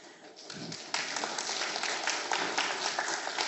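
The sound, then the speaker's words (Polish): An audience in Andrychów bursts into steady applause for the president of the local Rural Housewives' Association as she is invited to speak, dense overlapping claps swelling up after a brief quieter start and continuing strongly throughout. “Jeszcze nic nie powiedziałam, a już brawa dostałam, tak?”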